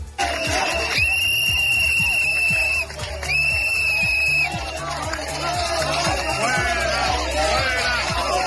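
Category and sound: crowd, crowd whistling in protest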